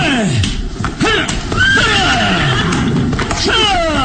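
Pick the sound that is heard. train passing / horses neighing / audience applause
horses neighing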